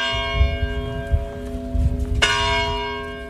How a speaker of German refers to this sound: Am Sonntag rufen die Glocken der nahegelegenen Kirche von Villa da Bispo zum Gottesdienst. Eine sehenswerte alte Kirche mit bemalten Wandfliesen vom Boden bis zur hohen Decke.